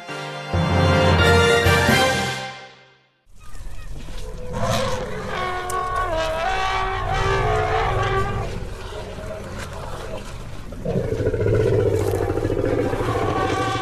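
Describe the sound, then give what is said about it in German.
Elephants calling to one another: a loud, brassy blare that cuts off, then deep continuous rumbling overlaid with wavering, moaning tonal calls that rise and fall for several seconds. “Hier hören wir, wie Elefanten miteinander kommunizieren.”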